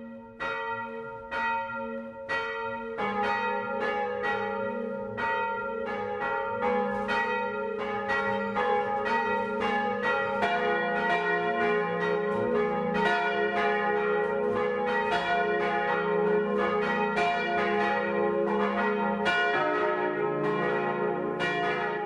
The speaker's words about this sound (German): Es ist 12 Uhr. Das Mittagsläuten kommt heute aus Pauluszell in Niederbayern.